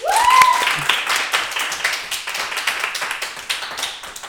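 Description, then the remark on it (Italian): A studio audience of the show Tutto il resto è noia bursts into applause for Prisco, dense overlapping claps that stay steady and fairly loud throughout, with a brief whistle-like tone rising at the very start. “un applauso per Prisco.”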